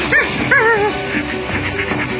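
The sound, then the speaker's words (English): A dog gives two quick, rising whimpering yelps, followed by a short stretch of softer noise with no further calls and no speech. “That's the trouble with being a dog.”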